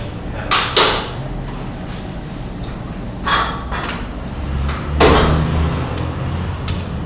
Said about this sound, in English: Walk right up to it. Find it with your hand and then push. And then we'll do it for the second door as well.